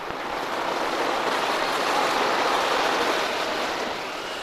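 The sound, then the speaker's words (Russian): Rough sea surf stirred up by blowing winds roars steadily, a dense, hissing wash of breaking waves that swells slightly in the middle and fills the whole stretch with no voices. “Ветры подули, море взволновалось, и бочку выкинула на сухой берег, на желтый песок.”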